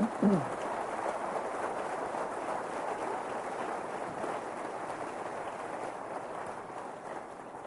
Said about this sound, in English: So let's have a round of applause for the Windows XP team.